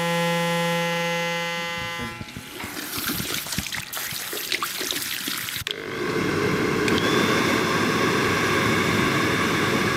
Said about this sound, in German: Ja, die Geräusche kennt jeder, oder? Wir sind in einem Friseursalon. Föhn, das Waschbecken und Haarschneidemaschinen, das war jetzt nicht ganz so schwer, oder?